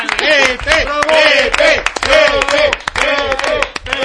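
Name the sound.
people clapping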